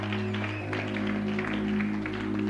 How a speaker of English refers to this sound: I thought you were clapping to Jesus, not unto me.